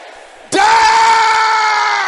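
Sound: audience shouting prayers loudly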